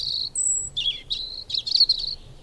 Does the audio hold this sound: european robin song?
yes